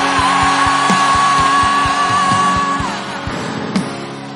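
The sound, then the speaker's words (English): An audience shouts amen and cheers together in a loud, sustained roar, with a steady keyboard tone and rhythmic thumping running underneath. “Let me hear your shouting amen.”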